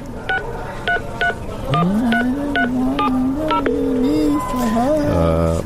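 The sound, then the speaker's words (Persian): A phone number is dialed: about eight short, evenly spaced keypad beeps, followed by a steady electronic tone and a low warbling hum that carries to the end. “بزن بودو من یه تلفن بزنم.”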